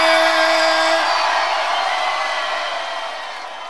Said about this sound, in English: And that version was actually recorded in Philadelphia. You can hear the audience in the background really enjoying themselves. I think it was at the Bahama Bay Club.